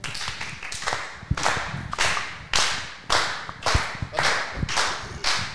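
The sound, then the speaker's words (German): An audience claps together in a steady, even rhythm, about two beats per second, while someone mops up spilled popcorn. Each clap is loud and sharp with a brief roomy decay, and nobody speaks. “Das Publikum klatscht mit mir im Takt Applaus, wenn du hier das Zeug aufwischst, weil du hast ja auch runtergeschmissen.”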